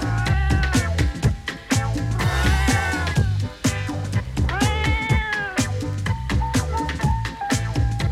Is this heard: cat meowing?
yes